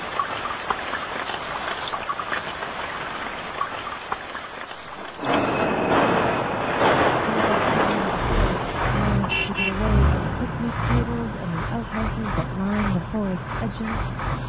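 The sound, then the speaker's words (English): Steady roar of car traffic fills the scene, swelling louder partway through, with indistinct voices chattering over the rumble and a brief horn-like toot. “The roaring cars gave way to the rustling of tree branches, crackling of fallen leaves under my foot.”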